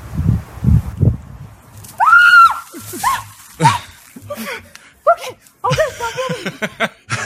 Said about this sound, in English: Two, I've never heard her scream like that ever.